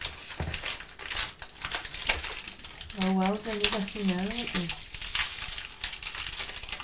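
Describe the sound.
Loud, continuous crinkling and rustling of a plastic wrapper being pulled off a cereal and milk snack bar, with people talking over it throughout.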